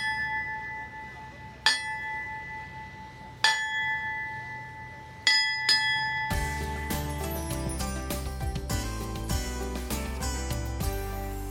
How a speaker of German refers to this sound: Grund genug zur Feier der abgeschlossenen Arbeit, mal die Schiffsglocke zu läuten, auch wenn gerade kein Hafengeburtstag ist.